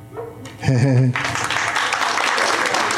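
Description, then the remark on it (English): A short, warbling voiced sound gives way to a steady patter of polite golf-style applause, a moderate crowd clapping evenly and fairly close for about two seconds. “Followed by polite golf applause.”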